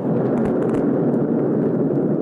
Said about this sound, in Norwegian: du kan jo bare kjøre klippet nå, der har vi faktisk oppskytningen.